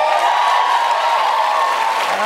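An audience applauds, a dense, steady wash of many hands clapping at an even, loud level for a couple of seconds, with some faint cheering mixed in.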